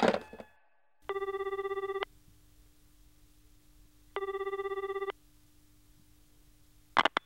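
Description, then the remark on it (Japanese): A telephone rings twice in regular bursts, each about a second long with a buzzing electronic trill, separated by a pause over a low steady hum, with brief clicks at the start and end. “俺だって好き好んで電話してるわけじゃねえよ。”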